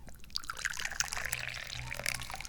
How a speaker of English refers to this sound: And right about now is when we drink the tea. So I open the teapot, I pour the tea.